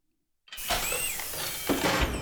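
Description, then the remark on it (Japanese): A door swings open after a moment of silence, giving a loud, sustained creak with high, wavering squeals over a rough scraping rumble for nearly two seconds. No one speaks. “あ、また扉が開いた。”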